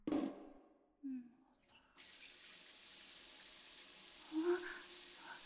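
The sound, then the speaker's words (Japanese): Shower water switches on after a couple of seconds and runs as a steady, close hiss to the end, with brief bits of a voice before it starts and again near the end. “もう私が先にシャワー浴びちゃおうかな。”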